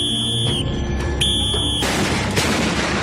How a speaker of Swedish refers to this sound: Man får till exempel följa med i norra Spanien en getingbekämpare som spränger bort ett sammetsgetingsbo med någon sorts smällare eller något sånt i en puff.